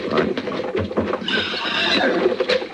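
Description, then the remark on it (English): A horse whinnies loudly in a drawn-out, shrill cry, with restless hoof stamping and shuffling around it, busy over a few seconds. “hold on to them horses.”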